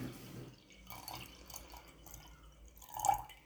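Water is scooped three times in the morning from a clear mountain stream with a large wooden bucket, making gentle sloshing and dripping sounds that end in a louder splash near the close. The sounds are fairly quiet, with no voices.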